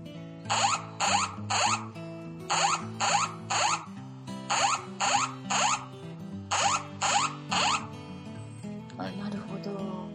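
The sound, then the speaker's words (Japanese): A mobile phone's earthquake early warning alert, sent as area mail when the Japan Meteorological Agency issues a warning, sounds: loud, bright chiming tones in four groups of three rapid bursts over a sustained droning chord, fading into faint noise at the end. “これは結構緊急を要する音になったんで聞いてみてください。”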